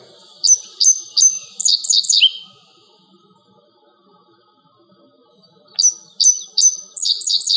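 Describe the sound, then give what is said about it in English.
A dickcissel sings two bursts of its song, a few sharp chips followed by a rapid buzzy trill, with a pause of silence between them; clear, with no talking. “Yeah, this is the Dick Sisal, and it is a bird that's heard in Vermont occasionally and seen, but very rarely.”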